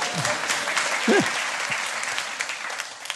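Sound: audience applause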